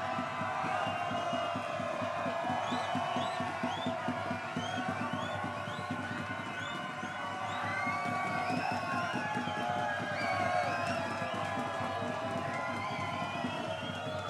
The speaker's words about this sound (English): The crowd is trying hard to get the band back on stage for an encore. We'll see if they are successful.